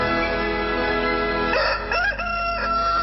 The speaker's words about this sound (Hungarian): Nem a kakas szavára kezd virradni, de a kakas kiált, mert hogy virrad.